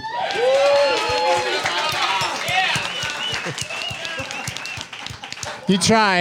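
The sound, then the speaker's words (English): A large audience at a comedy show at The Creek in the Cave during South by Southwest bursts into loud, sustained applause, with dense clapping layered under whoops and cheering voices that swell and carry on for several seconds. “You tried to do it, but all that clapping, all that thunderous applause drowned out the callback.”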